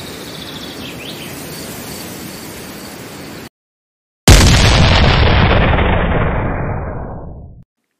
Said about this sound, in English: At 4:30 p.m., the cannon shot through the skies. Thus began the Battle of San Jacinto.